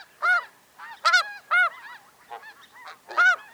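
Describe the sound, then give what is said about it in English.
Several geese, a flock of snow geese mixed with smaller Ross's geese flying through North Texas, honk in a loose, overlapping series, with loud nasal calls about every second and softer calls in between, with no talking. “That's because this flock is a mix of both the petite Ross's goose and the heftier snow goose.”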